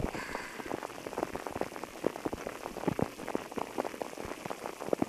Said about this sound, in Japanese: 雨の音も安らぐし、雨の匂いもなんだか心地いいですよね。